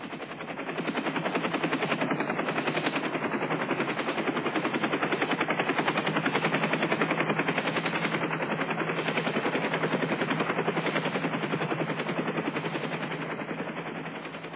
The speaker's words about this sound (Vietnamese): Trực thăng bắt đầu xuống thấp, chuẩn bị đáp ngay giữa quốc lộ.